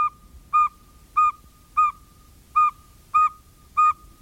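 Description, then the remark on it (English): A northern saw-whet owl gives a steady series of about seven short, even, mid-pitched toots, evenly spaced like someone tooting a recorder, with no talking. “If it sounds like someone learning to play a recorder, it's a northern saw-whet owl.”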